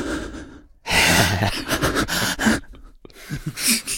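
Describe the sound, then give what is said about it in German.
A voice imitates loud, heavy breathing: a series of forceful, noisy inhales and exhales with short pauses between them, filling the whole clip. “Leute, die laut atmen, habe ich auch eh nicht verstanden. Die so richtig so machen?”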